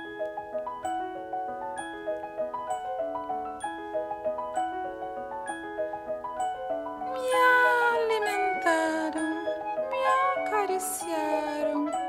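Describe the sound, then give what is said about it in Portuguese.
A steady keyboard melody plays alone at first, then several loud, drawn-out cat meows with rising and falling pitch break in over the music, insistent until the end. “Miau.”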